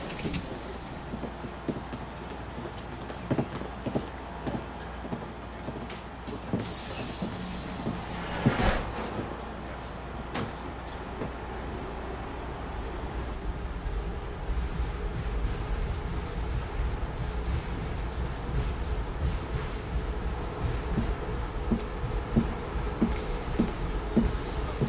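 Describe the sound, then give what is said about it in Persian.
A metro train rumbles steadily along with a constant low roar and faint rattles, and a brief burst of sharper mechanical noise midway may be doors sliding. No one speaks. The next station is Metro Center, and the doors open on the right side. “ایستگاه بعد مترو سنتر، درها از سمت راست باز میشه.”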